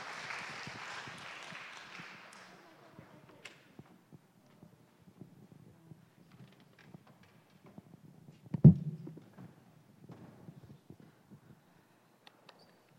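A crowd's applause welcoming the abbess, Venerable Changuan, to speak fades out within the first couple of seconds. It is a dense hiss of clapping, followed by a quiet stretch of faint shuffles and one sharp low thump.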